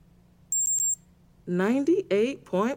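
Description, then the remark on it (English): A digital thermometer taking a temperature, which reads 98.5 with no fever, chirps three quick, high-pitched beeps in a short burst, followed by a moment of quiet and then a high, animated voice speaking. “Okay, here comes the thermometer.”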